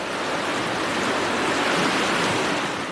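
A steady, full roar of the glacier-fed waters of the Yukon River rushing through Miles Canyon toward Whitehorse, dense and continuous with no breaks, fairly loud with no voices.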